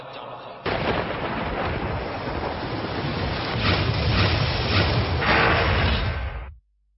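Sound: thunderstorm with heavy rain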